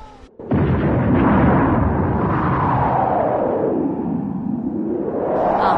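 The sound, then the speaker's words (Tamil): A large explosion erupts suddenly after a brief quiet moment as a vehicle attacks an army camp, then a loud, deep rumbling roar rolls on for several seconds, heavy with low booming energy, shaking the ground and flattening a large multi-storey building housing soldiers. “கமல் நின்ற இடத்தை தாண்டி வண்டி சென்றதும் கமல் மில்லரை நோக்கி கையசைத்து பின்னுக்கு செல்ல சில நிமிடத்தில் நிலத்தில் அதிர வைத்துக் கொண்டு பெரிய ஓசை எழுந்தது.”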